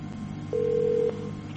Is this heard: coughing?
no